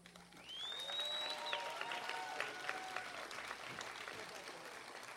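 A crowd at a festival applauds steadily for several seconds, a dense wash of clapping with a few whistles rising over it, sounding like a large audience.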